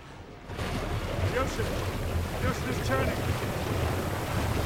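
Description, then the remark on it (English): Seawater by a volcano churns and bubbles steadily from fissures opening in the seabed as magma mixes with the water, after a brief quiet start, a loud, continuous rushing wash with wind buffeting the microphone and faint voices mixed in. “The water's bubbling, the result of fissures opening in the seabed and magma mixing with the water.”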